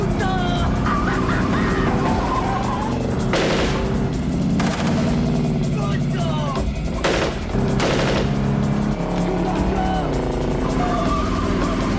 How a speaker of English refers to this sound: The van pulls alongside of them. They slide the door of the van open. Start machine gunning the car.